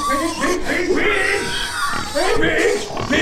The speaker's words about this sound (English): Pig! You like corn husk, don't ya? Corn cob too! Hungry, ain't ya?